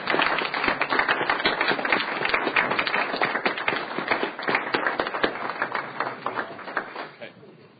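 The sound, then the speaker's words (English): A roomful of people in a Senate chamber applauds steadily to welcome a visiting middle school class from the Alban school, dense overlapping claps for several seconds before tapering off near the end. “I would like to give them a big Senate welcome.”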